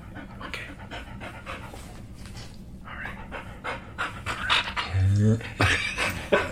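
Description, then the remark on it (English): An excited dog pants rapidly at a home in Los Angeles, a steady run of quick breathy huffs that grows louder and more urgent toward the end. “We're going to get some dog breath on the podcast.”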